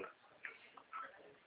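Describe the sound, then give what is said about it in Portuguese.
A clock ticks softly with a few quiet, somewhat uneven clicks, then one sharper, louder tick at the end. No one speaks. “É, meu relógio”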